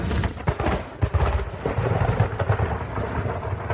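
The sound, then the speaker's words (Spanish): Deep rumbling thunder rolls through steady, hissing rain, the low booms swelling and fading across a few seconds with no voices present. “Algunos hasta que cae la primera gota o escuchan los truenos.”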